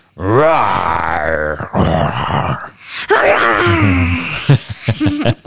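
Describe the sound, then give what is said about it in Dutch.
A father imitates a dinosaur roar with loud, drawn-out, wavering vocal bellows and groans, two long roars followed by shorter growling bursts. “Wij zitten hier als een stelletje dinosaurussen te brullen.”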